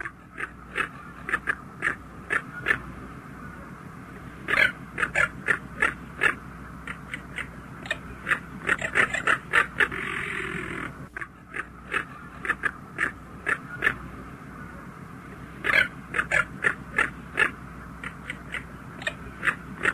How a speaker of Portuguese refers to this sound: Sua plumagem alvinegra chama a atenção, assim como sua face amarela e um penacho que possui na região da nuca. O canto do carcará consiste em um grito rosnante, composto de várias estrofes.